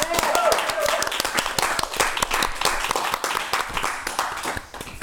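An audience in a hall applauds to welcome guests onto a stage with an orange sofa, dense overlapping hand claps sustained for several seconds with a brief cheer or whistle near the start, fading slightly toward the end.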